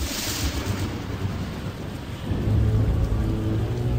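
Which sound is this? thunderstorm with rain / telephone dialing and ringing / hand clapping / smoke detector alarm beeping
thunderstorm with rain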